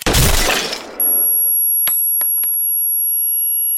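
A woman fires a single round at a wall; the loud gunshot blasts and decays over about a second, then gives way to a steady, high-pitched ringing tone with a few faint clicks and no voices.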